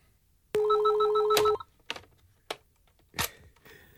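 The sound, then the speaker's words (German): A steady telephone tone sounds for about a second, followed by several sharp mechanical clicks and clunks of the handset and dialing, fairly loud, with no voices, from a telephone in Hannover at dawn. “Ich schnorrte mir eine Handvoll Kleingeld und stürzte zum nächsten Telefon.”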